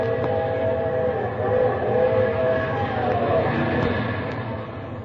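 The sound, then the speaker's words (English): The whistle of the 3 a.m. train on the railroad tracks by Dearborn and 35th blows at night in a long, steady, droning tone for several seconds over a low rumble of rolling rail cars, fairly loud. “That's the 3 a.m. out there blowing.”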